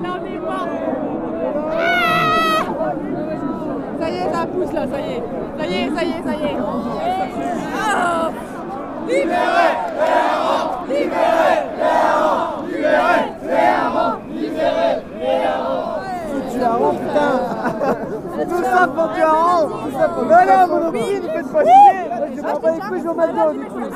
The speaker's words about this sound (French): Retour au carnaval de Dunkerque où la foule attend son hareng.